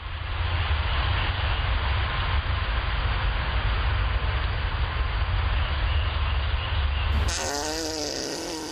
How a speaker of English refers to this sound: That's the loudest queef I've ever heard. That is awesome. Is because that a deer fart? Yes, yeah. It is. It is a deer fart. And its little tail goes like this. The deer, and it's a full body action by the deer, too. They're really pushing that out.